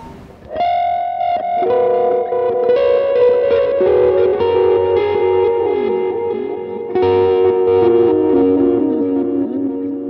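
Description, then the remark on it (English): An electric guitar played through an Avalanche Run delay pedal set to reverse delay, with swelling, layered sustained notes and pitch bends washing into each other, loud and continuous for about ten seconds with no talking. “Yeah, it's just another delay, but it has the reverse effect as well as a bunch of other effects.”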